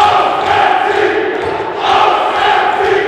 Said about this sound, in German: Und ausgerechnet diesmal in der Aufstiegsrunde zur zweiten Handball-Bundesliga waren sie es, die nach dem Match ausgelassen jubeln durften.